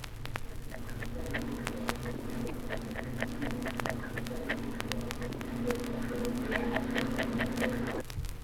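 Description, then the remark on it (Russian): A female angelfish prepares her nest, cleaning the spot for laying eggs: irregular sharp clicks and small scraping taps, some in quick clusters, over a steady low hum that cuts out near the end. “Звуки, издаваемые самкой скаляри при подготовке гнезда, чистит место для откладки икры.”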